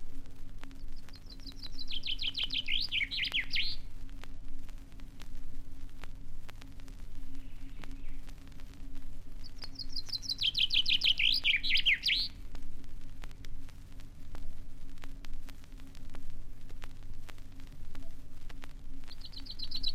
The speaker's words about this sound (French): Vigoureuses et sonores sont les trilles du pinson.